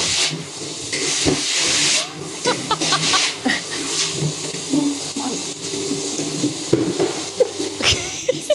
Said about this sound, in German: Das ist ein Staubsauger, der ist ganz leise. Ja, ja, das ist schon das leise Silent. Modell, gell?